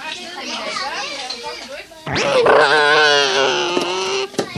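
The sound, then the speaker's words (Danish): Children's voices chatter and squeal in a kindergarten, then a child loudly imitates a car engine with a long, buzzing vocal drone that wavers and slowly falls in pitch, with other voices around it. “Ja, sådan lyder det, når en rigtig bil kører i Don Luises børnehave.”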